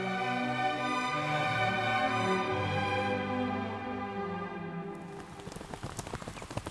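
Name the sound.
rain falling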